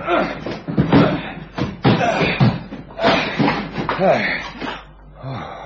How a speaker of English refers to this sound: I'm going to break this door down. Do you think you're sure? Well, there's nothing else for it.